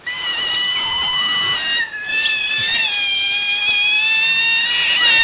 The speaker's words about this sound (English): Oh, pretty noisy. Oh, how many otters are there? Oh, it's just sounds like your whole family tree there.